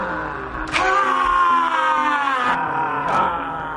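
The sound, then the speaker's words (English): A person lets out a loud, sustained yell on cue during a posed game-day photo shoot, lasting about two seconds, followed shortly by the start of another strained vocal burst. “Good, and again, give me a yell.”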